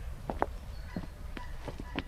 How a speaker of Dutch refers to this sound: Misschien kunnen we er heel even heen lopen. Dan gaan we over de stapstenen, zoals dat heet. Ja, want ik begrijp dat je op het mos niet mag lopen.